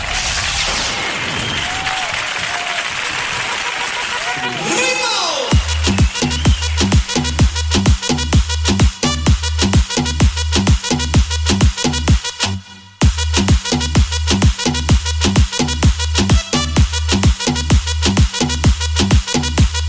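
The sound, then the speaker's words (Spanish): Dense, hissing heavy downpour of rain roars steadily for the first few seconds, then gives way to loud music with a driving, regular bass beat that carries on to the end. “Oiga, se largó el agua, pero con tan tirando el agua con balde, Dios mío, señora, ay, ay, ay.”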